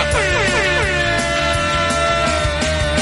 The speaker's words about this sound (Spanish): cuídate mucho, que tienes la garganta muy fina, tócame la bocina.